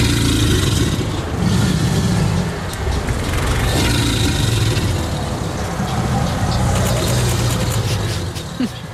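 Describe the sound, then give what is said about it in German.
An alligator bellows in a deep, continuous, throaty rumble that carries on steadily for several seconds, loud, a bit like an idling engine. No one speaks. “Alligator. Und das ist vollkommen richtig.”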